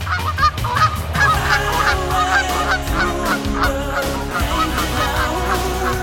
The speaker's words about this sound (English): Looking at a Canada goose, you might not think their bodies are designed for fancy flying. But watch as a flock of geese comes in for a landing at a lake, and you might be surprised.